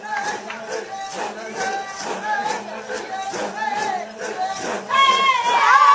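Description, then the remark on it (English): Six Maasai warriors chanting in a group while taking part in the London Marathon, deep voices rising and falling in a steady rhythmic pulse, with higher wavering cries joining and growing louder near the end. “Those close enough will not only see the warriors, they will hear them chant as well.”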